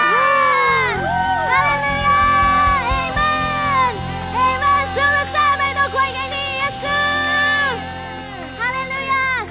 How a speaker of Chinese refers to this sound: 所以如果你相信的话，当我数到三的时候，给神一个最大的欢呼，欢迎相信期待神的降临。准备好了吗？一二三， 哈利路亚。